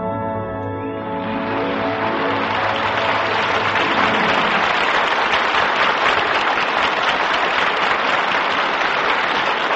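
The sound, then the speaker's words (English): A steady wash of audience applause for a play, many hands clapping densely and loudly, swelling in after a brief tonal sound at the start and continuing unbroken to the end. “And I'm happy to share that applause with my co-star in tonight's play, the very lovely and very young actress whose name is Joan Loring.”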